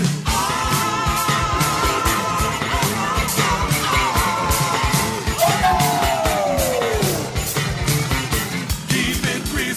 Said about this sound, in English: Here come that crazy screaming sound.